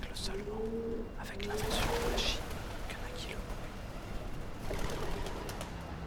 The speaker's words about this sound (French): C'était donc roucoulement suivi d'un vol de pigeons.